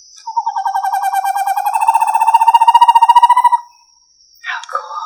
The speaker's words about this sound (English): And there's 2 Eastern Screech Owls with like haunting calls, according to YouTube.